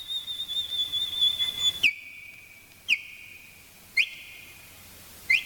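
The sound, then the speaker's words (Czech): Song of a common nightingale (Luscinia megarhynchos): a high, wavering whistled phrase, then long steady piping notes broken by four sharp, rising chirps at roughly regular intervals, heard alone without any talking. “Među našim pticama mali slavuj, Luscinia megarinhos, je svakako ponajbolji pjevač i jedini dostojan suparnik mu je drozd pjevač Turdus filomelos.”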